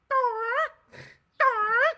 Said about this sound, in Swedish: Jag såg en ganska rolig, vet du hur en pelikan låter?